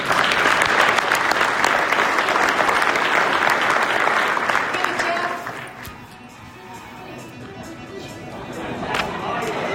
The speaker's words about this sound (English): So ladies and gentlemen, a big round of applause for our opening session.